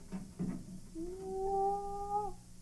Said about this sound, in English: Here comes the Baron now. He's opening the dungeon door.